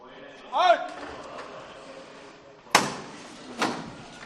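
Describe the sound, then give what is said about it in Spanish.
A capataz (foreman) strikes his heavy metal knocker (martillo) on the wooden procession float (misterio), which is about to be lifted and taken out into the street. A sharp, loud bang is followed by a second, softer knock a moment later, amid crowd murmur and a brief raised voice. “se vuelve a llamar al martillo y es ahora cuando el misterio en instantes pues se levantará y saldrá a la calle.”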